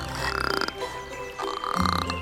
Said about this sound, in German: Aber hey, jetzt lass mich doch auch mal was sagen. Oh, so ein Quark. Hör doch mal auf zu quaken.